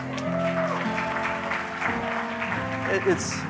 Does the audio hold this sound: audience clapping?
yes